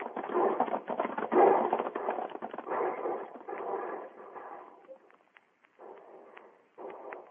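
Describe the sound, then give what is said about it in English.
A group of riders on horseback gallops toward wagons with a dense, rumbling clatter of hoofbeats, loud at first, then thinning and fading into a few short bursts. “Everybody on his horse and ride straight for the wagons.”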